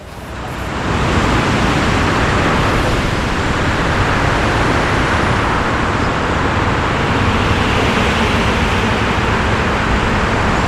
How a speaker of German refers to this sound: Ja, und es ist auch deswegen so laut, obwohl das eben elektroangetriebene Fahrzeuge sind, die dort fahren, durch die Roll- und Windgeräusche ab 40 km/h sind die zu hören.